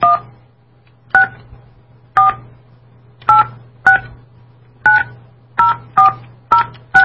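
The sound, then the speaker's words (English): Around ten short telephone keypad tones beep one after another at an uneven, hand-typed pace, loud, with a faint low hum running underneath and no voices, as a call to New Zealand is dialed on an international phone. “But I'm just calling him directly to New Zealand, and hopefully he'll pick up”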